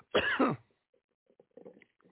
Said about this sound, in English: Damn this cough.